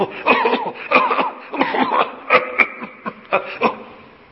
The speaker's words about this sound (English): So Hazrat sat on the pulpit and he said, Bhai, it seems that everyone in this masjid is suffering from cough. Kya? Bichare sab bimar hai, kya? All of them are mareez.